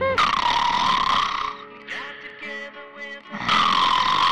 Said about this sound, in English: Okay, so I snore occasionally.